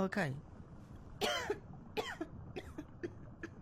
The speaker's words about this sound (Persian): تا کی میخوای سرفه کنی؟